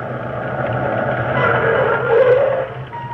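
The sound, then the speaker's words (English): A car brakes hard at an intersection as the traffic light turns red, with a rising squeal cutting through the steady rumble of the engine for a moment before it settles. No one speaks. “He slammed on his brakes.”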